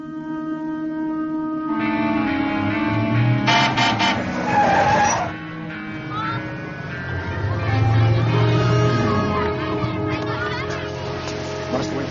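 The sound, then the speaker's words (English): An old car rumbles along while its horn honks in loud, drawn-out blasts, the tones stacking and shifting over a steady engine drone for several seconds. “Faster than walking. But not as safe. Are you afraid of cars?”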